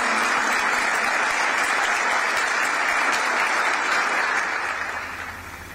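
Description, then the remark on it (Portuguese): Sustained applause from a large audience for all the teachers of the planet, a dense, steady wash of clapping that holds strong for several seconds before gradually tapering off at the end. No voices stand out. “Eu aproveito aqui para pedir uma salva de palmas a todos os professores e professoras do planeta, de todos os continentes e todos os países.”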